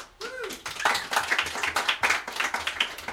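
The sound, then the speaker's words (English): An audience applauds steadily, a dense patter of many hands clapping at fairly even loudness for a few seconds, with a brief rising and falling whistle-like tone at the very start. “I come from Yorkshire, and we don't applaud before we know what you're in for, so that's a personal opinion.”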